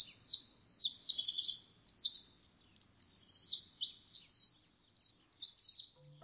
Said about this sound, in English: It referred specifically to the tiny cocked tail of the only wren of the Old World, once known simply as the wren, now called the Eurasian wren. It's a close cousin of the winter wren and the Pacific wren of the U.S.